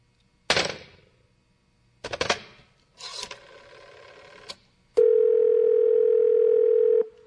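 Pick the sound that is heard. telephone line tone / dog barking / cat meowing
telephone line tone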